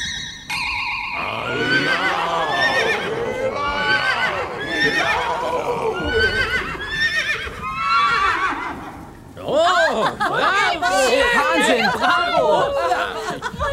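A loud chorus of horses at a stable door whinnying and neighing in overlapping bursts, like raucous carnival cheering, continuing for the whole stretch after a brief shimmering tone at the very start.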